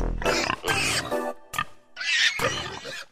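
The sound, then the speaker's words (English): Pigs squeal and grunt loudly in a rapid series of shrill, overlapping bursts, broken by a short pause before a final frantic stretch of squealing. “Oh, it's them squealing pigs again.”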